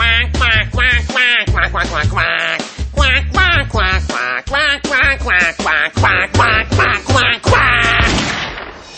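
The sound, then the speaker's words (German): A voice sings the next verse of a song in rapid, nasal quacks, imitating a duck, with steady rhythmic syllables over a music backing, loud throughout. “Warte, die nächste Strophe singt jetzt mal die Ente.”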